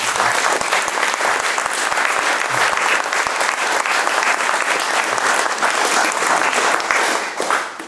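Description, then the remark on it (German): Sustained applause from an audience, a dense, steady wash of many hands clapping at an even volume for several seconds before easing off at the very end. “Und gebt mir noch einen Applaus an dieser Stelle.”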